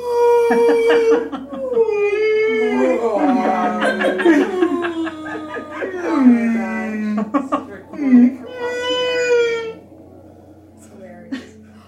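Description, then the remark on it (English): Voices imitate whale song with long, wavering, gliding moans and whoops that rise and fall in pitch, mixed with chuckles and laughter, fairly loud for about ten seconds. “Yeah, it's totally like whale sounds.”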